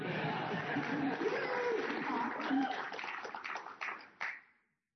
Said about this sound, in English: Okay, you should be clapping about that.